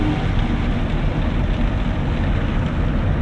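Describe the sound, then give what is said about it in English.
A car wash passes over the windshield: a loud, steady rush of spraying water and brushing with a deep mechanical rumble underneath, unbroken for the whole stretch, with no voices. “They're doing a windshield going over the top.”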